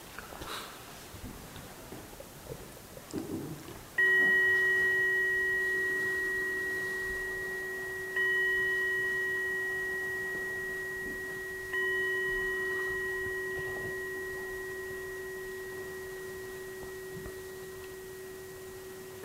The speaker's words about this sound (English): This is a great clock. It's a Zen clock.